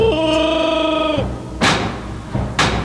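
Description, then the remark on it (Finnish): Two heavy thuds strike a door about a second apart, loud, each with a short rumbling decay, as Chewie tries to knock the door down. A sustained, droning growl-like tone comes just before them. “Lyö ovi kumoon, Chewie.”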